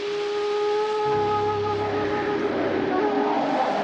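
A strong gust of wind, with trees shaking hard, roars steadily for a few seconds, its hollow, whining howl giving way to a louder, rougher rush of air toward the end.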